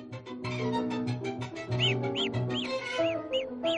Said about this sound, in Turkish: Kuşların şarkıları da gelişi güzel çıkarılan sesler değildir. Söyledikleri şarkılar belli bir anlam taşıyan, bir amaca yönelik söylenen melodilerdir ve olağanüstü çeşitliliğe sahiptir.